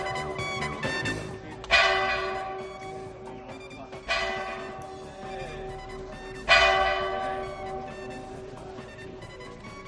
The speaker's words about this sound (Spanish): Nos encontramos ya sentados en el salón de plenos del Ayuntamiento de Adanero, en la provincia de Ávila. Están sonando ahora mismo las campanas que indican que son las 9 de la mañana en el reloj del Ayuntamiento. Un poco retrasado.